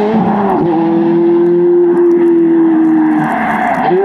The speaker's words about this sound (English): It's a Ferrari F430 red.